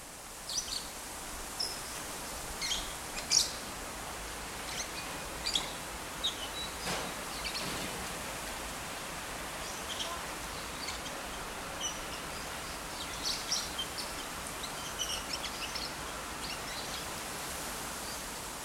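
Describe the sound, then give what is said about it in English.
Parrots call in scattered, sharp chirps and squawks over a steady, hissing outdoor ambience at a temple, with no voices. “The irony is that at this temple, you don't hear music. You don't see monks, you just hear these parrots, and that's all there is to it today.”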